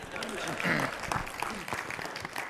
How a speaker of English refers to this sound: Well, good morning. Yeah, you can applaud for that. That's funny.